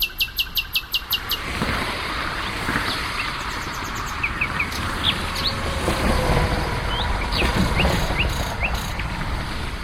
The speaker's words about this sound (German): Doch für den Nachtigallenmann ist das echte Arbeit, muss er doch mit seinen kunstvollen Melodien gegen immer mehr Lärm von Autos, Bahn- und Industrieanlagen anbrüllen. Rund 190 verschiedene Strophen kennt er.